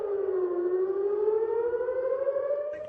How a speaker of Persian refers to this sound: منبع‌های محلی بامداد پنجشنبه از به صدا درآمدن آژیر هشدار حمله موشکی در شهرک‌های صحرانشین در اطراف نوار غزه خبر دادند.